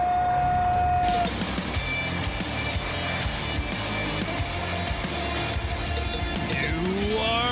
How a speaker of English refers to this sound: Fog machine's already cranking because it's almost Halloween around here.